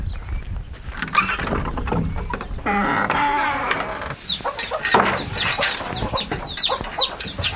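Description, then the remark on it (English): A busy flock of roosters and chickens clucks and squawks continuously inside a farm barn free of machinery, with overlapping calls over a steady low rumble of background noise. “He showed me around his farm where the plows in the fields are pulled by horses, and the barn, unlike those most farmers keep today, was absent from machinery, letting the roosters and pigs and cattle rule the roost.”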